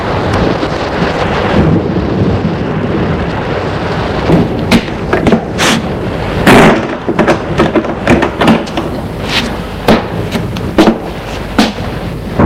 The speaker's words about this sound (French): Il reste un moment devant la porte, puis le vent, la pluie sont tellement forts qu'il est obligé de s'éloigner et de fermer la porte.